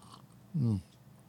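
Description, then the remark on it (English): A single short sip and swallow of coffee, with a brief throaty gulp and quiet surroundings. “After a sip of coffee, let us pray.”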